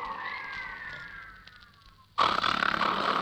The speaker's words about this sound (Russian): И вдруг в наступившей тишине раздался мощный храп Байбока.